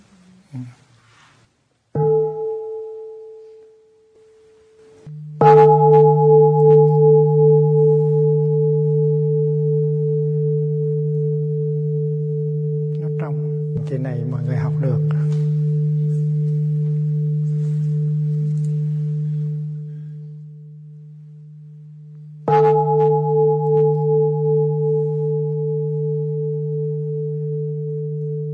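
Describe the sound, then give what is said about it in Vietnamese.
A hanging bell is struck three times, a soft first tap and then two full strikes. Each leaves a deep, steady hum with a brighter overtone that rings on for many seconds, with no talking. “Thì mình giúp cho tiếng chuông nó bay lên, chứ không phải là mình đánh đau để nó phải la lên.”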